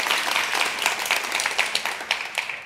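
A crowd applauds steadily, many hands clapping in a dense, crackling wash with a few sharper individual claps standing out, moderately loud throughout.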